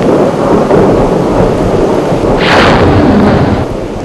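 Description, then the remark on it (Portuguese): A thunderstorm in the Istria region of Croatia, on the way to the small town of Rum, with steady heavy rain roaring throughout, deep rumbling thunder underneath, and a brighter crackling burst of rain or thunder swelling midway before easing. Loud, no voices. “Parece que vamos enfrentar um dilúvio.”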